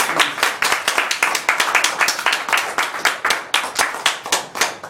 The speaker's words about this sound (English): Are you happy to be a Christian today? Can we give him a hand clap of praise for those that are happy to be Christians? Thank you, Jesus.